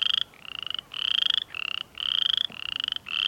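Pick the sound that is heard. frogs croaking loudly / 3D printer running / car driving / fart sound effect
frogs croaking loudly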